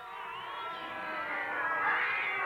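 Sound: many cats meowing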